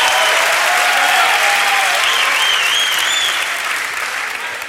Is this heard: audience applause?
yes